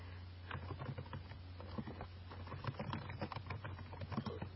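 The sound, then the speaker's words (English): Rapid, irregular tapping of computer keys in a steady typing stream, fairly quiet, over a low constant hum with no voices. “That was me typing you.”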